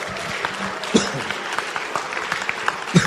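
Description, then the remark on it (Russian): An audience at a church service breaks into sustained applause for God, a dense, steady patter of many hands clapping with a few louder claps and faint voices mixed in. “Подари Богу аплодисмент.”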